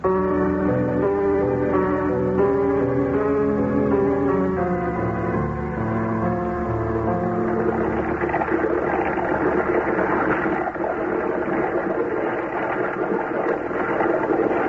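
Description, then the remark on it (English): A car engine runs steadily, a droning hum with a tonal whine that grows rougher and fuller partway through, continuous, with no one speaking, as the car is driven down to the docks. “Well, I'll drive you down to the docks.”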